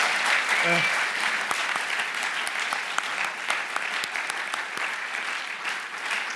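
Steady applause from a crowd in the Erzgebirge, given for the Lord, many hands clapping in a dense, continuous wash with sharper individual claps popping out, holding at an even loudness for several seconds.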